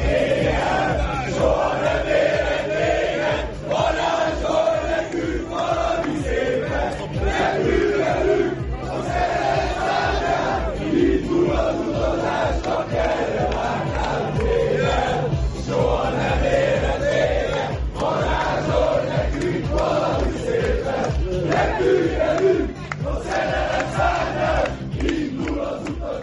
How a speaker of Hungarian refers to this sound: Na de vissza a mérkőzés utánra, ahol a magyar válogatottal ünnepelték az EB kiutást a helyszínen jelenlévő szurkolók, akik számára, és egyébként számomra is, ez a meccs egy meghatározó emlék marad.